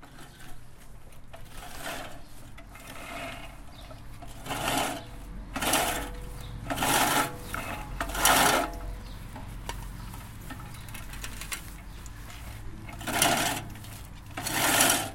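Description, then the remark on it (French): A manual push reel mower whirs and clicks through grass in an urban farm garden in repeated passes, each stroke a rising rattling surge of spinning blades that fades, with no talking. “Entre le passage de la tondeuse à main et la cuisine collective, un bénévole m'a parlé de démocratie participative et de ferme urbaine.”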